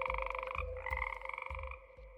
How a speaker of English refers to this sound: Then I lie awake listening to the frogs in the swamp.